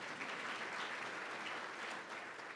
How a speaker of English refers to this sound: Outside organizations, Mo Vesey. I don't know if, is Mo here? I'll clap for him anyway.